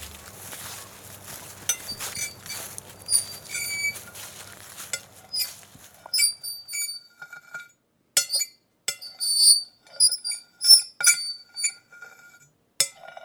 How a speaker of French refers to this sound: Ça, c'est les ardoises. J'aurais juste attendu que ça s'arrête pour pouvoir me plonger dans mon sommeil. Ça dure 30 secondes, ça dure une minute, ça va bien.